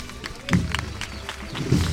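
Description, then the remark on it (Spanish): A crowd in Torreblanca applauding the passing procession float of the Virgen de los Dolores: dense, irregular clapping with sharp bright smacks, steady at a moderate level, with a faint low murmur of voices underneath. “El aplauso en Torreblanca para su Virgen de los Dolores.”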